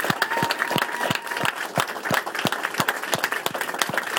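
At a political campaign event, a crowd of volunteers claps steadily, individual sharp hand claps standing out over a dense wash of applause that continues at an even, moderately loud level throughout.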